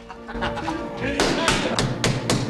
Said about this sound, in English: Diego bangs on the bar.